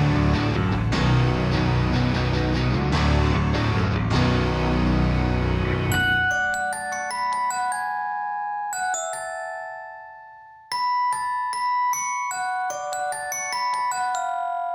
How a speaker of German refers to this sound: Und beide haben dieses präsente Glockenspiel.